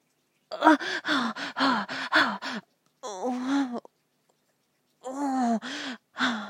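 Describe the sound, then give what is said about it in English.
A breathy voice lets out a quick rhythmic run of short panting moans, then a longer wavering moan, and after a brief silence a few more panting breaths. No words are spoken. “Oh, I can hear those moans. Oh, and you're breathing. You're panting.”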